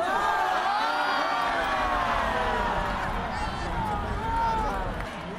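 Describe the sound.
A large crowd at a game between the unified inter-Korean team and Sweden chants and shouts "괜찮아" ("it's okay") together in unison to cheer on the unified team. A loud, dense roar of many voices rises and falls rhythmically throughout, with cheering swells.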